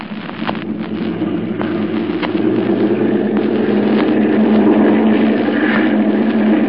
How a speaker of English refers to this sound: looks like the motors are going to run okay.